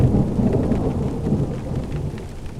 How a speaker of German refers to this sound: Blitze zerreißen den nächtlichen Himmel, Regen prasselt auf das Autodach.